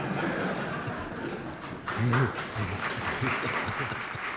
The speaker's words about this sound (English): And the Senate room erupts in applause.